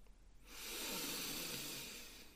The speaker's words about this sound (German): schnauft ganz tief ein und wieder aus.